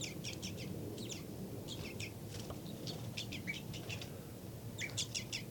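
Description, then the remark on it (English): Short, high bird flight calls from the bird labeled 5-9 repeat in quick clusters of two to four notes, sharp and chirpy, over a steady low rumbling background with no one talking. “Flight calls by 5-9.”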